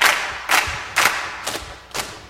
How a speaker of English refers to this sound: Clap and slap